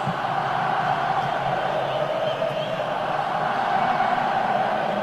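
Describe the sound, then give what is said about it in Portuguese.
A huge football stadium crowd of Vasco supporters roars and chants late in the second half of a match, in a steady, dense wash of noise that holds at full volume throughout, with no single voice standing out. “Olha o barulho que faz o torcedor do Vasco, hein? Tá empurrando a torcida Cruz Maltina, mas o tempo tá passando.”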